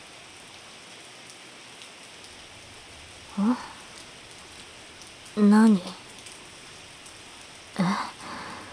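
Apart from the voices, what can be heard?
rain falling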